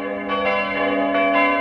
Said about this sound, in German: Also, was ist Ihr Tipp? Wo läuten die Glocken heute zum letzten Mal beim Heiligen Bimbam?